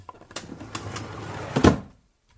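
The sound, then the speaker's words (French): Mother's drawer, holding felt-tip markers of all colors, slides open with a rough scraping rattle lasting about a second and a half, ending in a louder knock as it stops, then silence. “Dans le tiroir de maman, il y a des feutres de toutes les couleurs.”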